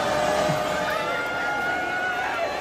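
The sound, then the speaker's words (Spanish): A large crowd at a protest roars with sustained booing and shouting as the Israeli prime minister's name is mentioned, a dense, loud wall of voices that continues steadily throughout without any single speaker standing out. “Abucheos y gritos contra Netanyahu que reflejan el enfado de la sociedad hacia este gobierno”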